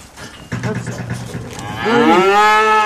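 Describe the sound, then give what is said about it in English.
A cow that is in calf lets out a loud, drawn-out moo, starting low and rough then rising into a strong harmonic bellow that holds steady to the end, with no talking. “But she's in calf.”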